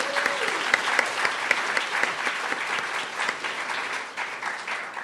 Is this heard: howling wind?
no